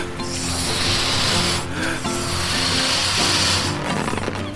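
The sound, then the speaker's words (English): A beach ball is inflated in long, steady hissing strokes with a squeaky, rubbery tone and brief pauses between them, then a sudden sharp pop right at the end. “Oh no, it popped.”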